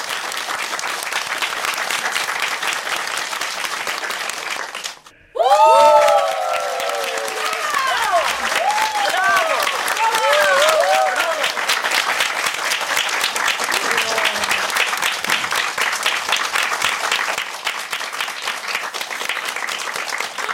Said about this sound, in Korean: 여러분 뜨거운 박수로 청해 주시기 바랍니다.